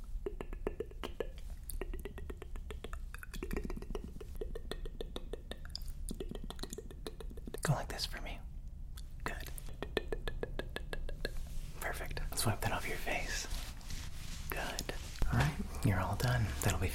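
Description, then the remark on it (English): Two genuine silver coins tap and clink together repeatedly in quick, light strikes, with soft whispering and rustling running underneath. “Oh, there's nothing like the sound of two genuine silver coins.”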